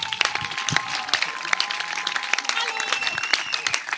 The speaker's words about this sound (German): Applaus, ihr Lieben, für unsere Dialektstub live.